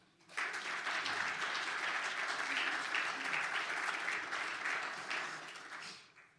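A crowd claps for the worship team in dense, sustained applause that starts abruptly, holds steady for several seconds, then fades out toward the end.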